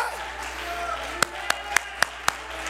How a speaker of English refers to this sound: Somebody ought to clap your hands. Somebody ought to raise your voice. Shout, yeah!